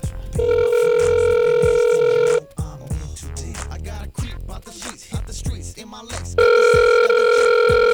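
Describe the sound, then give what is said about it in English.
A telephone ringback tone sounds on an outgoing call: a steady, loud electronic ring for about two seconds, a pause filled with faint background noise, then the ring starts again. “let me call Capone right now”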